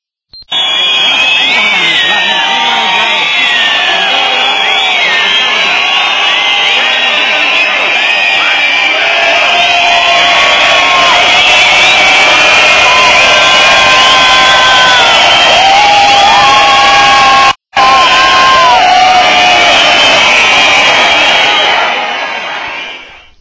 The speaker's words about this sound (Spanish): No hay cámaras, miles de velas encendidas y se rompe el silencio con el grito lleno de orgullo. ¡Viva Madrid! Y todos gritamos ¡Viva, viva Madrid!